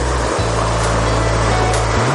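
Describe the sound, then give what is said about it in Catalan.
A steady, loud wash of breaking surf on a beach fills the scene, continuous, with a low rumbling drone underneath and no voices. “O passejant per la platja.”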